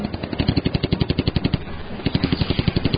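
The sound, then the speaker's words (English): Rapid automatic gunfire from aircraft swooping low and firing at German encampments, a steady rattling burst of evenly spaced shots over a loud engine roar, with a brief lull midway before the firing resumes. “Dixie and Benny swooped low, weaving between the German buildings and housings, taking a few shots at German encampments as they went.”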